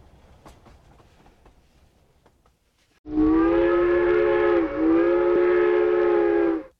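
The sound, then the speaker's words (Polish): Quiet rattling of a train rolling along, then a loud, steady whistle blows for over three seconds, briefly dipping before sounding again. “Pociąg jedzie dalej, powierzając Bogu wszelkie trudności, na pewno je przezwyciężymy.”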